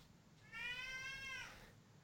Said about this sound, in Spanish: Vamos a saludar a un gato. Rufián, sí, Rufián montando Rufián, la Rufián, saluda. Rufián el gato, ¿no?